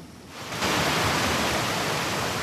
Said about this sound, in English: The downpour is welcome.